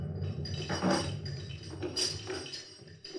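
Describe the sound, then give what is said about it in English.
A ship's anchor drops in the dark of night with a rough, bumpy metallic rattle, a run of crunching clanks and clinks of uneven rhythm, loudest near the start and easing off, with no voices. “That crunchy, bumpy noise you may have heard was our anchor on the way down.”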